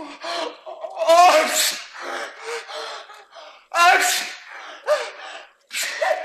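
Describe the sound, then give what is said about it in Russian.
A voice imitates a run of sneezes up close: several loud, breathy bursts in a row with short gasping pauses between them, uneven in rhythm and fairly forceful. “Чихал, кровь носом пошла.”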